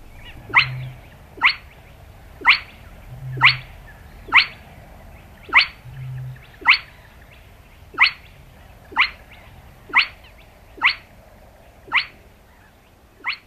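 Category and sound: bird, spotted crake call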